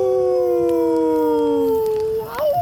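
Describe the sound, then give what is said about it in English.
Wolves howl in long, sustained, overlapping cries that slowly sink in pitch before a final upward wavering rise, with no voices and a faint hiss underneath. “finding solace in the quiet solitude of the snow-laden landscape and the distant howls of wolves echoing through the night.”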